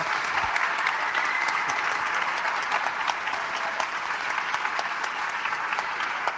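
Steady applause from an audience, a dense patter of many hands clapping at an even loudness throughout, with no voices over it.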